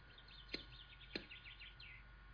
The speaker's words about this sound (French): Tiens, on entend les oiseaux. Je ne sais pas si vous entendez des oiseaux, vous aussi, mais des oiseaux qui chantent dans le micro. Bon, ils participent.